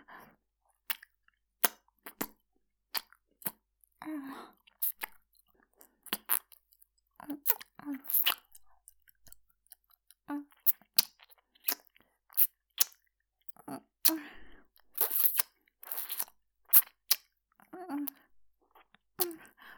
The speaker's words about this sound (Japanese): こんなかわいらしいお耳ならいくらでもキスできちゃう。もちろん耳たぶもハムハムしてあげるね。